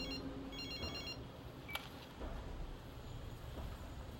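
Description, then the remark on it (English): A telephone rings as Jason Bourne calls Noah Vosin, a short burst of high, warbling electronic trills for about a second, then stops, leaving a faint hiss and a single click. “This moment is great, though, when Bourne calls Noah Vosin on the phone and...”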